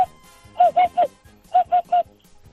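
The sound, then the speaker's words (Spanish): A human voice imitates a hoopoe's call: two quick bursts of three soft, low, hollow hoots each, evenly spaced with a short pause between the groups. “Y luego también se hace la bubilla.”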